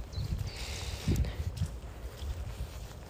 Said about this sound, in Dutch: Ik loop nu ongelooflijk in de modder. Misschien hoor je het zelfs gewoon een beetje soppen.